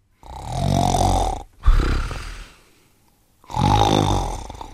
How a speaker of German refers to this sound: Schnarchen entsteht dadurch, dass im Schlaf das Gaumensägel in Schwingung kommt, wenn die Luft rein und raus geht. Und das wirkt dann wie ein Orgelpfeifen. Unten ist die Lunge als Resonanzraum und oben flattert dann das Gaumensägel und das produziert